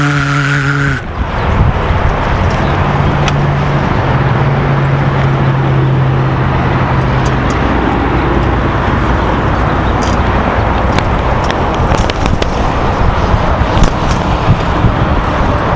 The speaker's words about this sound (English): You hear the highway. It's kind of like static. Probably more you hear the wind, I bet, hitting the microphone.